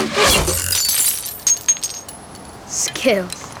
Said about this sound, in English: Lee crouches to collect money from the smashed piggy bank.